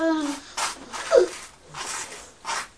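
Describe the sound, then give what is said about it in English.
A brief voiced sound opens, then about four short, breathy nasal sniffs follow at uneven intervals. Each is a quick hiss of air, moderately loud, with quiet gaps between them. “You sniff with your nose like that.”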